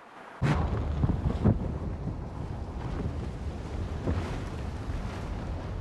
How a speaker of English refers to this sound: January is usually the month when U.S. icebreaker crews spend long days listening to the booming and grinding of steel on ice, as captured in this National Science Foundation audio.